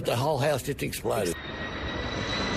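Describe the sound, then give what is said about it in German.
A woman's raised voice, calling to her son to get away, briefly rises over a loud, steady roar of a low-flying firefighting airplane releasing red fire-extinguishing liquid, whose engine drone then continues alone with a thin whine. “Weg hier, ruft eine Frau ihrem Sohn zu, als ein Flugzeug rote Löschflüssigkeit ablässt.”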